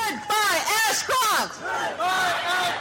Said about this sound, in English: While Attorney General John Ashcroft's national tour came rumbling into historic Faneuil Hall in Boston this morning, he was met by more than 1,000 demonstrators who opposed this legislation and what it has done to our civil liberties